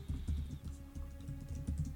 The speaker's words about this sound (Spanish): Se oye como tecleo.